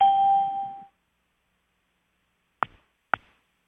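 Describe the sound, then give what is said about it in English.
A conference call chime rings as a steady electronic tone that fades out within a second, followed by silence and then two sharp clicks about half a second apart. “Okay, Andrea and exit chimes are off.”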